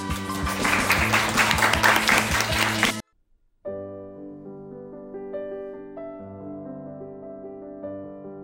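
A burst of loud crowd applause welcoming three interview guests fills the first three seconds over a music bed, then cuts off abruptly; after a brief silence, the music carries on alone.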